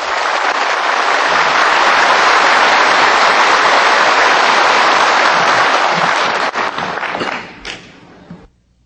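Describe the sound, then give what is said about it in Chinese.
A large crowd of guests applauds loudly and steadily for several seconds to welcome Supreme Master Ching Hai in Taipei, a dense wash of clapping that fades out near the end with a few scattered claps. “现在请各位来宾以最热烈的掌声恭请上清下海无上师。”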